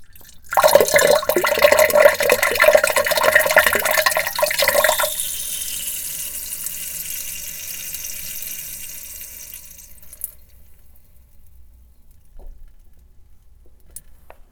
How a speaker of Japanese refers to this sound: しっこしていきますね。だいぶ近くに近づけてみましょうか。よいしょ、いきます。